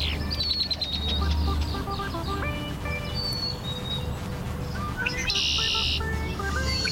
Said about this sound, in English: But where is the bird? Is it in a tree or on the ground?